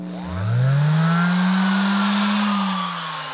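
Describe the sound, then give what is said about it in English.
A guitar builder's hand sander spins up, its low throaty motor tone rising in pitch and holding a steady buzzing drone for a few seconds before easing off slightly. No one speaks. “This is the throatier, put it in musical terms, hand sander.”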